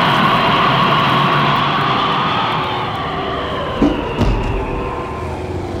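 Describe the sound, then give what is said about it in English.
A trolley car in San Francisco rumbles steadily along toward the waterfront on a foggy night with a broad, loud mechanical roar, and a couple of sharp metallic clanks near the end. No one speaks. “I've landed on a foam rubber trolley car.”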